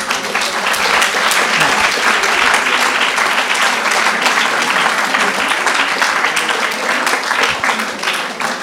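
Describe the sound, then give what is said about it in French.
Sustained audience applause, a dense crackle of many hands clapping steadily and loudly for several seconds with no break, holding an even level throughout. “Si vous voulez, vous applaudir.”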